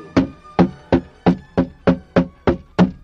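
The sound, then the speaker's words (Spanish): Eight heavy, evenly spaced blows pound on a house door in a steady rhythm, each a loud thud with a short hollow decay, as police chief Miguel Cabrera tries to force his way in, in the name of the governor. No voices are heard. “¡En nombre del gobernador! ¡Abra la puerta!”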